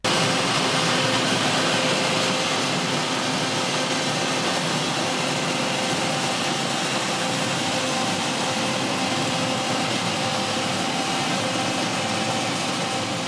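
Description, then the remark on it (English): Underwater recording of a container ship: a loud, unbroken mechanical roar with steady droning tones running through it, constant for the whole stretch with no voices. “And we recorded a container ship, I think it was off Dublin.”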